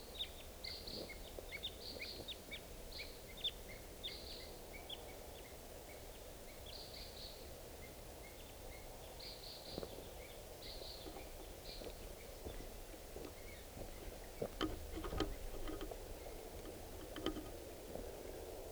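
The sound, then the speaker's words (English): Type 2 red crossbills give sharp, high kip calls in short repeated bursts, three or four birds still calling and answering one another, over a steady low rumble with occasional knocks and splashing-like noises. “3-4 still calling.”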